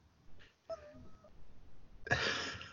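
cat vocalizing

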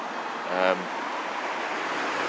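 road traffic passing

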